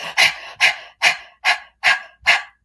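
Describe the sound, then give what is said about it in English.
A person tensing all their muscles breathes rapidly and tensely: six sharp, hissing breaths in a quick, even rhythm, loud and breathy like panting, with no talking. “Let's say I start tensing all my muscles and I start breathing like this.”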